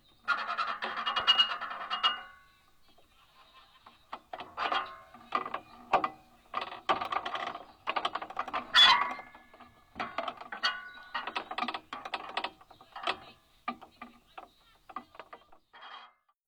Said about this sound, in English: The short walk ends under a pagoda on the 50th anniversary of the Wildlife Trust, listening to the dissonant aeolian shade of the pagoda's metal frame as it creaks in the breeze.